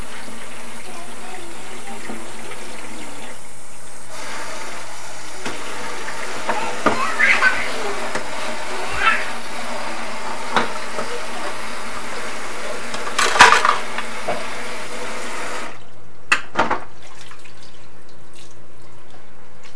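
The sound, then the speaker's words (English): Someone makes a mess splashing water in a dog's water bowl, a handful of irregular splashes standing out over a steady, hissy background, with brief pauses between them. “Are you making a mess with the doggy water?”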